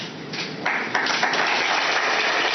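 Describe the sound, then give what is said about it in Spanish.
A crowd applauds at a Real Madrid player presentation as new signing Álvaro poses with Florentino Pérez and the number 19 shirt; dense clapping swells louder after a moment, then holds steady. No one speaks over it. “El aplauso para Álvaro de Zola, que posa ya en un momento con Florentino Pérez, ambos con ese dorsal número 19 que comentábamos anteriormente.”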